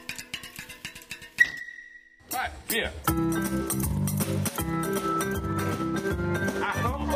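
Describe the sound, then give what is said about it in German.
Bright metallic piano notes ring out in quick plinks, then a held tone, before a fuller passage of clanging metal keys over a deep bass line plays steadily. A compressed-air orchestra: a man in green overalls plays a metal piano, with a bass guitar, on the loading bed of a pizza car. “Der Musiker und Orchestererfinder Peter Till sitzt an seinem Metallklavier, außerdem in Aktion die Bassgitarre.”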